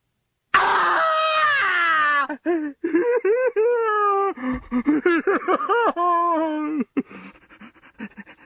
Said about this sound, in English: Scrooge, who screams. He falls aside the bed, weeping.